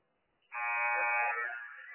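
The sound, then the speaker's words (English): A loud, harsh second buzzer sounds on a basketball court during a game, blaring after a brief quiet moment and holding steady as one continuous, rich electronic drone, with no voices present. “Second buzzer sounds in the court of play right here.”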